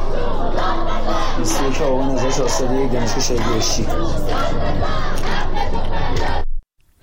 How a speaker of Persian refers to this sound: روز شنبه 21 آبان و در نهمین هفته اعتراضات سراسری، تجمعات اعتراضی و تحصن دانشجویان در شماری از دانشگاه‌های ایران ادامه یافت. در دانشگاه بهشتی گروهی از دانشجویان شعار داد بزن حق تو فریاد بزن سر دادند.